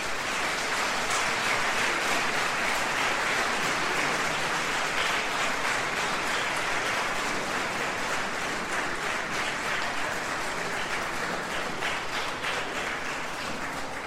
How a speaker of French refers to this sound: Donc je vous demande d'applaudir très fort … et son ensemble.